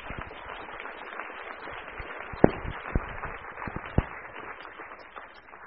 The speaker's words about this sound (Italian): per cui accogliamo Samantha con un altro applauso e le lascio la parola subito.